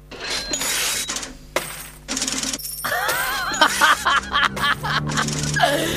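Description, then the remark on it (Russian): Coins being minted and clinking: loud, repeated mechanical bursts with bright metallic ringing, followed by a continuous jingle of coins with what sounds like snickering laughter over it. “Итак, дорогие мои, после демонстрации таких скоростей монетной чеканки”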